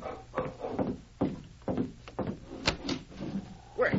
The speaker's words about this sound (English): It was hours later when Bill Kramer heard the sharp bark of a dog and then a stumbling footstep outside his door.